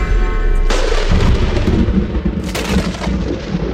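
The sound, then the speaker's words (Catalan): A sharp bang bursts out, followed by a long, rumbling thunderclap that rolls loudly with a second crack partway through, filling the whole stretch with deep booming noise. “Si tu, com a científic, sí, dius una frase i se sent un cop i un tro...”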